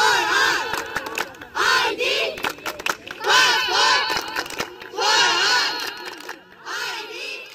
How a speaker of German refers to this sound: Bei tagelangen Protesten fordern Demonstrierende Anfang März dieses Jahres ihre Rechte ein. Sie fordern Papiere für alle.